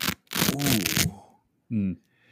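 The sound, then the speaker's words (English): A brand-new premium Cabretta leather Red Rooster golf glove being handled, a burst of crisp, papery crinkling and rustling for about a second, followed by a short voiced murmur. “That's that fresh, brand new Red Rooster glove about to go on the back of your hand.”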